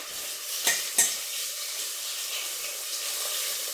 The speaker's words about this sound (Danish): i løbet af foråret, at jeg udviklede den her teknik med at stege flæsk i en gryde. Og det er jo simpelthen så indlysende, som det overhovedet kan være, at der ikke sprøjter så meget fedt over det hele, når det er i sådan en høj gryde.